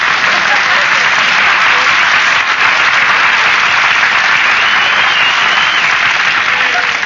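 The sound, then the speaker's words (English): Loud, sustained applause from a large studio audience fills the whole stretch, a dense steady wash of clapping without pauses or voices breaking through. “Nobody was supposed to applaud there.”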